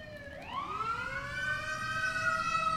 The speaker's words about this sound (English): I guess we can listen to ambulances go by.